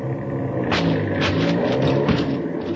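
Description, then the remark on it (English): A truck motor is started and its engine rumbles steadily and loudly, its deep drone broken by a few brief clattering bursts as the motor runs. “You go start the motor.”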